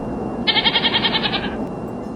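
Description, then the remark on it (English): A goat lets out one wavering, nasal bleat lasting about a second, fairly loud, over a low steady background hum. “Our air hostesses are just as fresh and sultry as the goats we carry on our flights.”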